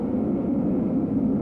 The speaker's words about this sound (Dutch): Er rijdt hier een spooktrein door dit verwenste schip. Een onzichtbare trein die zoek geraakt is in dit buizennet van tunnels.